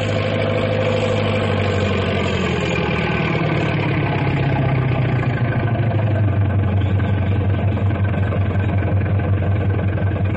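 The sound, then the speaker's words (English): A large double caterpillar tractor called Big Brute idles loudly, a deep steady rumble that winds down slightly in pitch after a few seconds, then settles into a low, throbbing drone with no voices. “That big double caterpillar tractor is Big Brute.”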